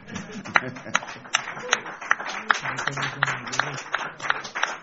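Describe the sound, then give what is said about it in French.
Audience applause welcoming an ambassador before he rises to speak, with steady, rhythmic clapping at a moderate level, the sharp claps falling in a fairly even beat while low murmuring voices carry on underneath. “Vous commencez à applaudir avant qu'il se lève.”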